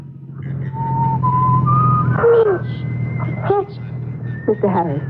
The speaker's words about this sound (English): Mr. …, are you whistling?